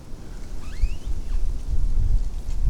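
A tree creaks in the wind, giving a thin, rising squeak or two early on, faint above a steady low rumble of gusting wind that swells toward the end.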